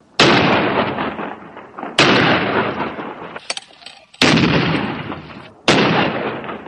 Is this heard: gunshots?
yes